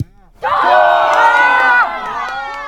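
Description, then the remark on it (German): A burst of cheering from a group of voices erupts suddenly at a TSV Metten inclusive football training session in Lower Bavaria as the ball goes into the net, a loud, high-pitched mix of shouts and whoops that holds for over a second, then eases into quieter continued cheering. “Jubel während dem Training des TSV Metten, wenn der Ball wieder ins Netz geht.”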